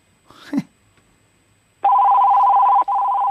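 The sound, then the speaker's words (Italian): After a moment of quiet line noise, a loud, steady electronic ringing tone of an outgoing call to a parapharmacy in Ragusa comes through a telephone line, holding for about a second, briefly cutting out, then sounding again. “Ma non sento nemmeno lo squillo. Eccolo.”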